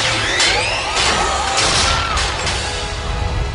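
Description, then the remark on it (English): Loud pod racing engines, hooked up by Phineas and Ferb using power converters from Tosche Station, roar and rev, a dense rumbling noise threaded with whining tones that glide up and down, surging in bursts about every half second. “Pod racing engines. How'd you hook these up?”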